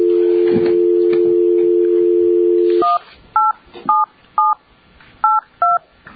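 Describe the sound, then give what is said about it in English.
A steady dial tone hums for about three seconds, then stops, followed by six short, evenly spaced keypad beeps as a number is punched in over a quiet line, dialing to get a licensee and her attorney on the phone during a meeting. “And I believe we need to get the licensee and her attorney on the phone.”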